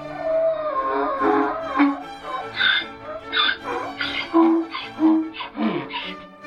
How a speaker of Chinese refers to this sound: 哎呀，驴子以为自己也会发出像狮子般凶猛的吼声，没想到他的叫声当然还是驴子的叫声。